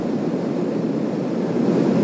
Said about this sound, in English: Okay, so it's basically airplane noise.